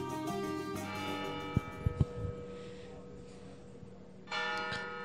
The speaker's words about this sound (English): The bell tolls